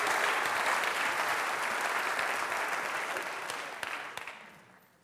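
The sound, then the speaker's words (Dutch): An audience applauds steadily in a dense wash of clapping that holds for about four seconds, then thins out with a few last claps as it fades away. “Nou, je mag ze daar applaus voor geven, want het is heel bijzonder.”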